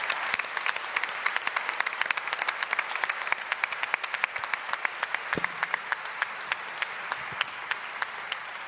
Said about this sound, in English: Let's give him another big New Hope applause.